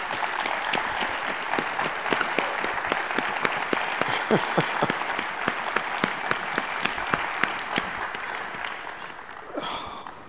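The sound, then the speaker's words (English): Sustained applause from a standing audience for the chairman, a dense wash of many hands clapping with sharper individual claps popping out, steady in loudness for about nine seconds before tapering off. “You know, first of all, before I sit down, can we all stand up and give another applause to the chairman here?”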